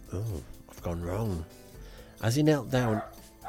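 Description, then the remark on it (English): A female dog barks and yelps excitedly as the postman comes to the door, four loud, drawn-out bursts in quick succession with short gaps, the last two louder and more frantic. “the postman came to the door, and the dog absolutely lost her shit.”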